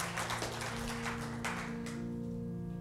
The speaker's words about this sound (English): Well, give the Lord a good hand clap in here.